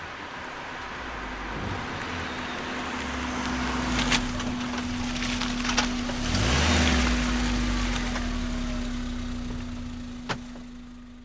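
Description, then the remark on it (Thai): A car drives up and parks in front of a house, its low engine drone swelling to a peak and then easing off as it settles to a stop, with a steady hum and a few small clicks. “มาแม่ออกมาหน้าบ้านกำลังจะไปเดินเล่นเปลี่ยนบรรยากาศก็มีรถยนต์คันหนึ่งเล่นมาจอด”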